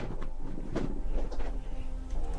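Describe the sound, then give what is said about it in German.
A man shifts on his chair: a short burst of rustling and a soft creak over a steady low rumble, with a few quieter shuffling noises after it. No one speaks. “Man hat ihn gerade gehört, wie er sich auf seinem Stuhl bewegt hat.”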